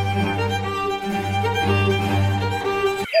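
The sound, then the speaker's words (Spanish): A violin mimics a cuckoo's call in Vivaldi's music, with short, repeated bird-like notes over a steady, sustained string accompaniment, played fairly loud, ending abruptly after about three seconds. “Bueno, pues así suena el cuco de Vivaldi.”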